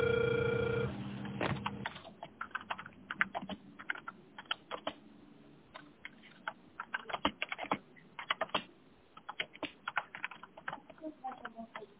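A steady electronic telephone ringing tone sounds for about two seconds while a call is being dialed, then gives way to a long run of quick, irregular keyboard typing clicks.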